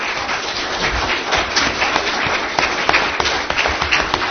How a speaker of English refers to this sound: So perhaps we could give them an additional round of applause.